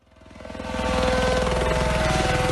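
A helicopter flies over the snowed-in Swiss ski resort of Zermatt, ferrying guests in and out. Its rotor chops steadily overhead, rising quickly from quiet to a loud, rapid rhythmic thudding with an engine whine beneath it. No one speaks.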